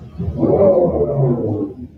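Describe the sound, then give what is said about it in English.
A synthetic engine revving sound, played from a vehicle's fake speakers, swells into a loud, deep roar, holds for about two seconds with a wavering low pitch, then tapers off. No one speaks over it. “Hold on, there's more fake revving.”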